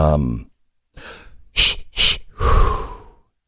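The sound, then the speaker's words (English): A brief vocal sound, then a deliberate breathing exercise: a drawn-in breath, two quick forceful puffs, and a long, loud exhale, all heavy and rhythmic. “We all need some breathing techniques”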